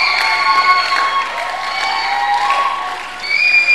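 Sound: audience applause and cheering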